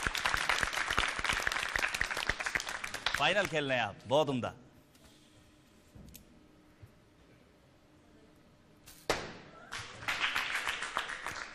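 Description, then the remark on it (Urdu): A crowd applauds with dense, steady clapping at the start as a contestant shoots arrows at a target in a game-show final. A man talks briefly, then a quieter stretch follows before another burst of clapping rises near the end. “تالیاں کم بجی ہیں لیکن آپ کو اپنی کوشش جاری رکھنی ہوگی.”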